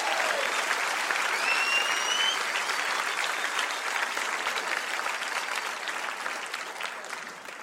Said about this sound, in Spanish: Vamos, denle un aplauso a Jesús.